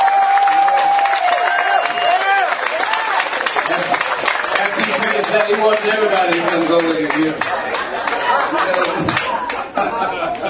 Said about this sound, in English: Ladies and gentlemen, give Jimmy Burton a nice round of applause.